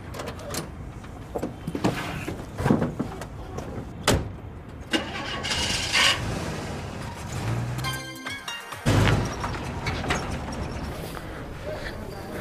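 A car engine cranks and turns over, then settles into a steady idle with a few clicks and knocks from the vehicle, with no one talking.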